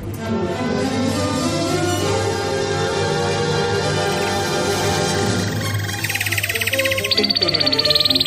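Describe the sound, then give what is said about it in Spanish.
A short radio jingle, the 'trino del conciso' that opens the 'información confidencial' segment of Carlos Dávila, with steady, full musical chords that give way to a rapid, high-pitched bird-like trill warbling through the final two seconds. It is loud and has no talking. “Suena el trino del conciso, es información confidencial de Carlos Dávila.”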